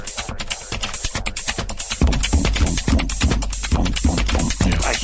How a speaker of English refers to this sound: Yeah, but listen, keyboard nerds who have an overlap with music skills, if you can make a rave song composed entirely out of clicky keyboard sounds and send it, that would make me very happy.